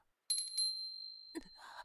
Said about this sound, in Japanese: またあの鈴の音か。